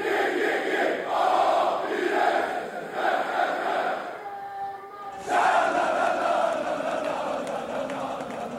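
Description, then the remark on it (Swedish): A large crowd of Gais football supporters chants in unison while marching to Gamla Ullevi for the Allsvenskan season opener, loud rhythmic group singing that briefly drops into a sustained tonal passage before the full-throated chanting surges back. “Så här lät det när det var 12 år sedan sist då som Gaisarna tågade till Gamla Ullevi för allsvensk premiär.”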